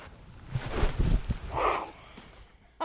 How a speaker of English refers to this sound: On the horizon, the falcon comes into view. If you listen carefully, you'll hear what it's like to be buzzed by a fast-moving falcon. Here he comes.